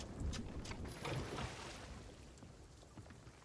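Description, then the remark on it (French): A boat moves through water as it is turned to head toward an island: a steady rushing wash of spray and splashing over a low engine-like rumble, slightly louder at first and easing off toward the end, with no talking. “Je tourne le bateau pour aller vers l'île.”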